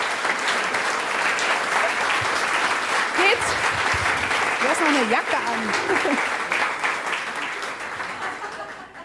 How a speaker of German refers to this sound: Dein Applaus.